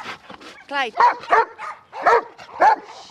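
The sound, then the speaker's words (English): The dog Clyde, who played Marley in the film Marley & Me, barks and yips in a rapid, excited series of sharp, high bursts, fairly loud, mixed with a raised human voice. “Bad dog, Marley! Marley! Stop it!”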